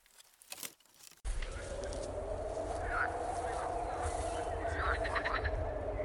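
A brief voice is heard at the start, then a dense, steady chorus of frogs croaking fills the forest, with rhythmic pulsing calls layered over a constant din.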